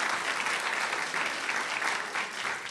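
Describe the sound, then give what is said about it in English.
A live studio audience at a broadcast from the Knight Studio at the museum in downtown Washington claps steadily, a dense, continuous patter of many hands at a strong, even loudness with no voices breaking through. “That's what you're supposed to be applauding. Go for it.”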